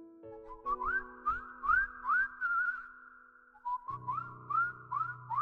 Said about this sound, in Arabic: بتسمع الصفار وهو بيصفر نفس النغمه كل يوم، نفس النغمه المبهجه، نفس النغمه السعيده.